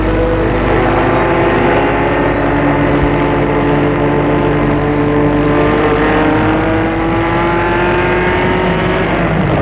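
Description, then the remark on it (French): A car drives steadily along on a trip to Deauville, France, its engine droning in a continuous low hum with slowly rising and falling harmonic tones, loud and unbroken throughout, with no voices. “Ils y vont en voiture.”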